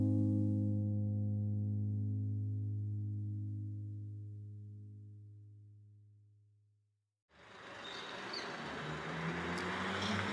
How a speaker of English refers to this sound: Okay, so it's Tuesday morning, 8 a.m. We're here together in the German colony. A lot of traffic, people going to work, people going to school.